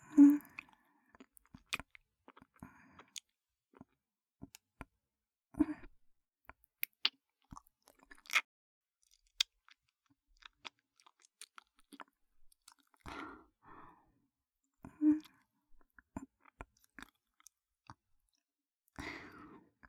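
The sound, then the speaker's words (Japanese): Close-mic licking mouth sounds made by an older sister into a newly bought microphone: wet, soft smacks, slurps and sharp little clicks arriving in irregular bursts with quiet gaps between, fairly faint overall and with no talking. “お姉ちゃんが生々しく舐める音、なんな風に聞こえた？”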